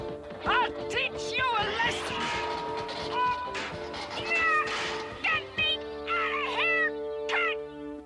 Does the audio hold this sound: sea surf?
no